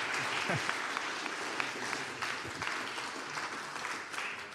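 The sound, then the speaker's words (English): Steady audience applause for people being presented with baptism certificates fills the whole stretch, a dense, even wash of many hands clapping at constant loudness, with a few voices faintly mixed in underneath. “It's just one more time to show our appreciation and our love for these guys.”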